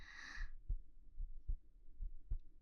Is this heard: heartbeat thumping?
yes